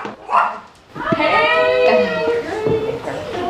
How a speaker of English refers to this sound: having some coffee in their Sarasota home when their dog lets them know someone's at the door.